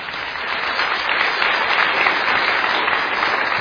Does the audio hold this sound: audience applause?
yes